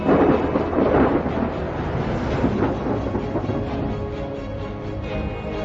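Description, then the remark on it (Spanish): A heavy, sustained rumble of thunder rolls through a stormy sky over the Grand Canyon, Arizona, during the monsoon season, broad and booming, with steady rain-like noise underneath and no voices. “Cielos melancólicos sofocan el fuego de la luz del sol en las paredes del cañón, mientras la temporada del monzón cae sobre Arizona.”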